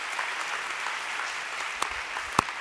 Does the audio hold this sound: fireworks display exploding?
no